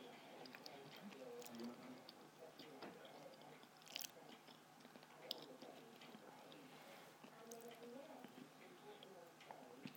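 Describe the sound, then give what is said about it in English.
Chewing of food, with repeated wet, crunchy bites and smacking clicks scattered throughout, while a person talks over it at the same time. “Excuse me eating, by the way. It's the first thing I had to eat today, so I'm hungry.”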